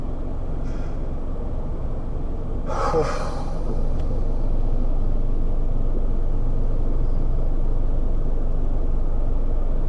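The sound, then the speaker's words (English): Steady low rumble of a car moving through road traffic, with a brief hiss like an air brake from another vehicle partway through; no voices, continuous engine and road noise throughout. “Fucking hell of traffic.”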